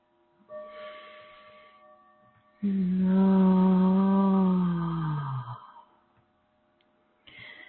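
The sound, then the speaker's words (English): A soft inhale, then a long, steady sung 'ah' on the out-breath in a guided breathing exercise, held for about three seconds, fairly loud, sinking slightly in pitch before fading. No talking. “Breathing in now, if you so choose, and breathing out with the sound of awe, the sound of the heart.”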